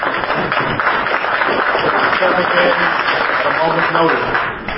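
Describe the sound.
An audience at a meeting applauds steadily and fairly loudly for about five seconds after the chair thanks the vice chair, a dense wash of clapping with a few voices murmuring underneath before it starts to fade.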